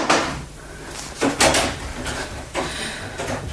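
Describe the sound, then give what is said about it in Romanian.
A door is opened, with a few clunking, rattling knocks of the handle and frame spread over a few seconds against a quiet background, and no one speaking. “Că un vis de copil m-a prins în ghiare, dar că cineva, deschizând o ușă, va veni să mă trezească.”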